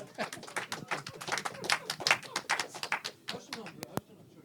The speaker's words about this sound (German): Ich darf trotzdem klatschen